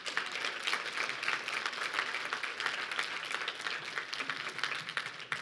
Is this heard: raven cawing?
no